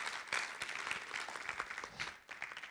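A church audience applauding for the Lord, a dense, steady patter of many hands clapping together at a moderate loudness, continuing throughout with no voices clearly heard over it.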